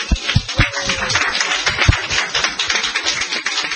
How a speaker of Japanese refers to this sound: で、これから各牧師がメッセージしてくださいます。じゃあ皆さん拍手を持って各牧師を迎えましょう。